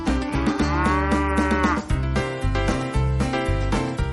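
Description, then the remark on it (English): Dairy cows moo loudly, one long drawn-out low call followed by more overlapping lowing, over a steady mechanical hum and clatter of a rotary milking parlor on a dairy farm that holds about 72 cows at a time. “This is where the cows come to get milk.”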